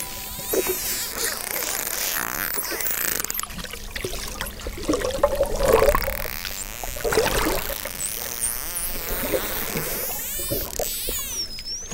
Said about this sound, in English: I mean, a lot of that is the dolphins just doing whatever they're doing.